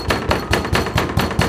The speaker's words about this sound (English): It began pounding on the door and telling me to let them in. The door shook and seemed like it was about to fall off its hinges.